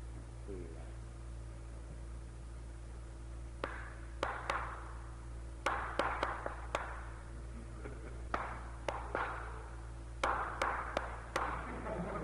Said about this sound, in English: All right, now I'm going to clap out a tune for you and see whether you can tell me what it is.